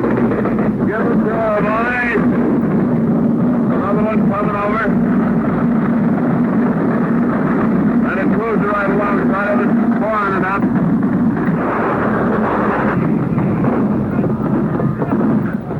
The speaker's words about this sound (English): And finally, from the invasion fleet off the Normandy beaches, on D-Day came this historic report by George Hicks. Here we go again, another plane's come over.